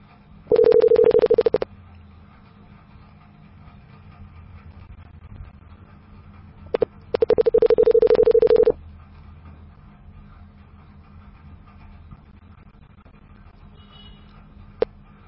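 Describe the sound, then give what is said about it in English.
A telephone dial tone after a call is hung up sounds in two loud, steady bursts, one short and one a bit longer, separated by several seconds of low background hum, with no one talking. “Hey, why did you hang up the phone?”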